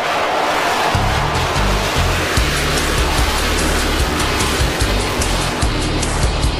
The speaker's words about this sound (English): The exhilarating sights and sounds of fighter jets will fill the air during the Baseboard and Canadian Armed Forces Day and Air Show, Saturday, June the 2nd, and Sunday, June the 3rd. Hear the power of the CF-18 Hornet fighter jet.